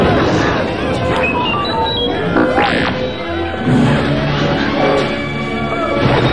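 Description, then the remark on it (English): Heavy crashing and thudding of a pile of giant tree-trunk logs tumbling down after the vine ropes holding them are chopped through, a loud, sustained clatter of wooden impacts with scattered cracks and some background commotion. “But before they could attack, one of the Ewoks chopped through some vine ropes and released a pile of logs. The giant tree trunks crashed down on the stormtroopers.”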